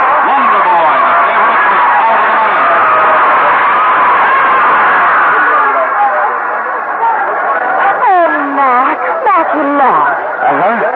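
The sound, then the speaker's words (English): A loud, dense racetrack crowd murmurs and chatters continuously after a horse race won by Matchless, with Stargirl second and Warlord third, many voices blending into a steady roar, with a few rising and falling exclamations standing out near the end. “let's get out of this crowd.”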